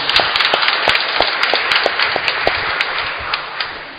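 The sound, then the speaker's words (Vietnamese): A large audience at a church Mass applauds loudly, thanking the choir groups, with dense steady clapping filling the space and a few sharper individual claps standing out, sustained for several seconds with no talking. “Cộng đoàn chúng ta cảm ơn bằng tràng vỗ tay thật lớn.”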